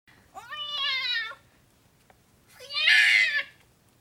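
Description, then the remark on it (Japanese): A cat that has just been caught meows twice, clear: a long whining mew, a short pause, then a second higher, more strained meow. No voices, only a faint low background hum. “捕まえた猫。 あ、猫ふわふわ。”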